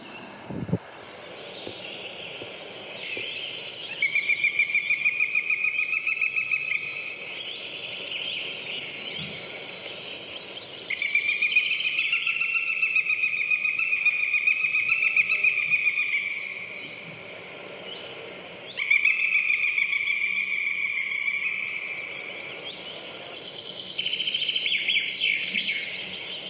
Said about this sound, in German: ich würde jetzt gerne einmal den Habicht spielen lassen, weil ich glaube, auch den Ruf hat man schon gehört. Könnte ich mir vorstellen.